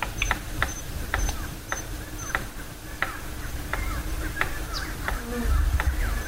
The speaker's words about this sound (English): It is a bird. It's a bird called the palm cockatoo, also called the palmy. This is a bird found in northern Queensland and Australia.